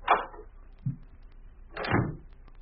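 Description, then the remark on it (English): A door is shut and locked: a sharp knock, a short low thud, then a longer rattling scrape of the latch. No one speaks. “Be sure to lock the door”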